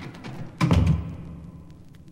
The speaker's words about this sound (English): Help me close the door, Captain. It is very heavy.